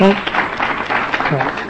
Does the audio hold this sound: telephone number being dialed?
no